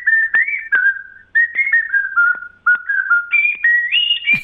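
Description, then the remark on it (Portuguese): A person whistles a wavering, mid-pitched melody in an imitation of the call of the urubu vulture: a run of short sustained notes, gliding up and down, with brief breaks and clicks between phrases. “E o urubu, que é o pássaro mais famoso do Brasil, né? O canto do urubu a gente fecha essa noite.”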